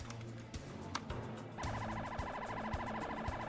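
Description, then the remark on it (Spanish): After a moment of low rumbling background, a police patrol car and an ambulance arrive at a scene at a University of Miami dormitory, their rapid warbling siren wails bursting in loud and continuing steadily to the end. “Una patrulla de la policía y una ambulancia acuden a la escena.”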